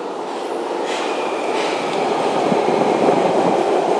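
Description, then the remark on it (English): A train arriving at a station platform rumbles steadily closer, its broad low roar filling the space, with faint rattling and a thin high whine of wheels on rails as it approaches. No one speaks. “It sounds like there's a train coming already.”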